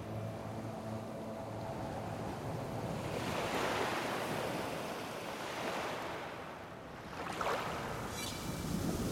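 Steady surf washing in, with a broad rushing swell building in the middle and another wave breaking near the end, mixed with some wind noise and no voices.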